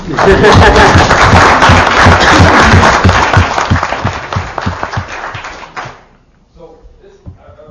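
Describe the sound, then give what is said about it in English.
A crowd breaks into loud, dense applause for the ELI staff who did the work, carrying steadily for about six seconds, then cutting off abruptly, leaving a few scattered soft sounds and faint murmuring. “They get a big round of applause because they did all the grunt work we did.”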